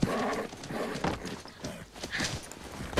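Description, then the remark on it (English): A scared wild black Mustang mare, about two years old, at a small white corral gate: her hooves clip-clop in quick, uneven clusters as she shifts and stamps restlessly, with some scuffling and movement noise around the hoofbeats. “That's the wild horse!”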